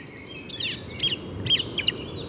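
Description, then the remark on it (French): A common blackbird sings outdoors in spring, giving a few short, high, twittering phrases in quick succession over a steady low rumble of background noise, moderately faint. “Donc après les merles noires”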